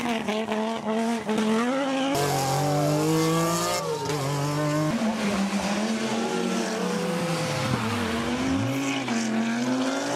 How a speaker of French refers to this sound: voici la Peugeot 205 Turbo 16 Evolution, qui est littéralement la reine des rallyes